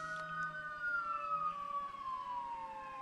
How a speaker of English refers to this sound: Fire trucks going by. This is not a Martin Scorsese movie.